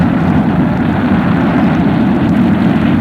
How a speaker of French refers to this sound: Le vent souffle.